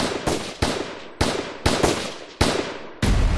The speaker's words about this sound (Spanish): Mientras él hablaba, algo irrumpió en el auditorio: unos gritos y un disparo.